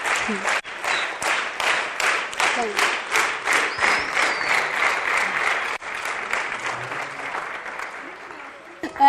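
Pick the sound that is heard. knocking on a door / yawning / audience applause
audience applause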